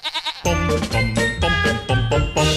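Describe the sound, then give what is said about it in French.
A goat bleats loudly on a village square, starting with a quick quavering call and then several harsh, drawn-out bleats in steady succession. No one speaks. “Pour la chèvre, le béaba, c'est pas bêlé, mais béguété.”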